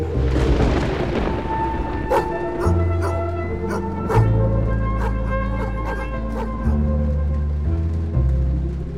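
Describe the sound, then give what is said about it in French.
A dog on the alert barks in a string of short, sharp yaps spaced a second or so apart, heard over a steady, droning musical background with deep bass notes. “D'un geste agacé, il referme le capot rouillé, puis se retourne vers son chien qui est aux aguets.”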